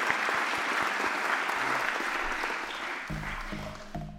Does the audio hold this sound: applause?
yes